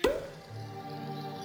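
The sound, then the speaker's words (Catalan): A single sharp pop as a cork comes out of a bottle right at the start, quick, followed by a steady, low tonal hum that lingers softly to the end. “Destapa.”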